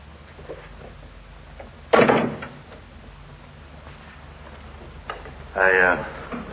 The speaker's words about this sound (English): Come in and close the door.